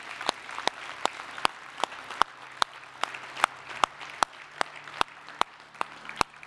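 An audience in a church service claps along in a steady, even rhythm, cheering to God for people surrendering their lives to Jesus Christ. Sharp hand claps land roughly twice a second over a soft crowd murmur, with no distinct cheering voices standing out.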